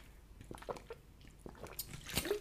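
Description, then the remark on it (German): Soft, wet mouth sounds of someone taking a sip of water: a few faint slurps and clicks, then a short gulp near the end, with no talking. “Darauf einen Schluck Wasser, ihr Lieben.”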